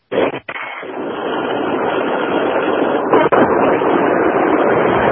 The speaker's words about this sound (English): Well, it certainly sounds like we're down by the ocean this morning. And we're going to go ahead and drop that call. Well, anyway, sounds like they were sitting out by the beach.